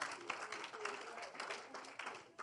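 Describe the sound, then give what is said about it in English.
An audience applauds steadily for a couple of seconds, clapping for the Bible, a dense, hissy clatter of many hands clapping at once, with a faint murmur of voices mixed into the noise. “Clap for the Bible. Clap for the Bible.”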